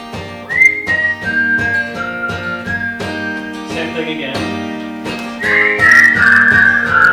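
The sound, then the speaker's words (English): A bright whistled melody of sustained and sliding notes plays over a steady instrumental backing with a regular beat, the whistle growing louder and more ornamented toward the end. “There is a whistle part that you need to learn.”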